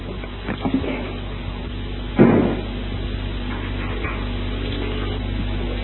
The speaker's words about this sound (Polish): No, można powiedzieć, momencik, muszę zamknąć drzwi.